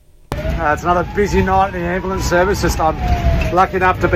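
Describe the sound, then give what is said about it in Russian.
An ambulance engine rumbles low and steady from inside the cab while someone talks continuously over it, with a faint sustained tone running underneath; the ambulance is driving to an emergency call in the northern suburbs of Adelaide, South Australia. “Мы едем на вызов в северном пригороде Аделаиды.”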